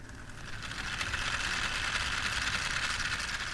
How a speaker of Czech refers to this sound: Můžeme to městečko rozpohybovat? Můžeme rozpohybovat, pustíme kolotoč a uvidíme, jak hezky se točí.